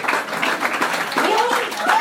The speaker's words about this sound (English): All these people over here are clapping, and you're the judges.